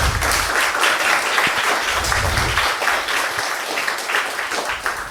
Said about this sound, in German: Erstmal einen großen Applaus